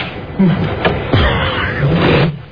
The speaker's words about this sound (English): Here it is. The drawer opening. So you get that?